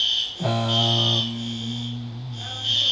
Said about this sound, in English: I don't know. I'm drawing a blank. It's the sirens distracting me.